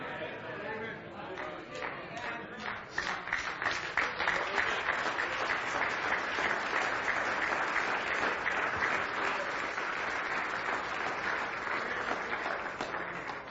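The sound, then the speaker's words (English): A crowd at a sermon breaks into applause, building over the first few seconds into steady, dense clapping that continues throughout. “And even when they clap, you hide.”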